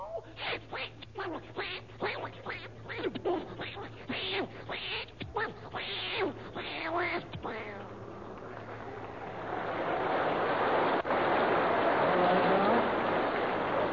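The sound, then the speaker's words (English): Human voices mimic a cat fight, with a rapid string of yowling, meowing cries for several seconds, then a sustained loud hissing, spitting rush of noise to the end. “Now, for the benefit of the household pets of our listeners, let's have a cat fight.”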